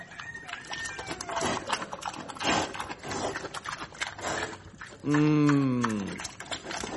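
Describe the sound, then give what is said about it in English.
Pigs at feeding time: a busy commotion of snuffling, grunting and clattering, then one loud, drawn-out squeal about a second long rising over the noise. No one speaks. “And I want to show you just what it's like to feed the pigs.”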